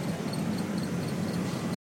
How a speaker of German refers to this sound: Das ist das Zirpen der Kühlung in einem Rewe frische Regal. Hättet ihr das raushören können?